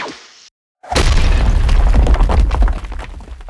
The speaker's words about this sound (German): wenn wir jetzt zum Beispiel diesen Laser abfeuern, dann hört man ja diesen Laserschuss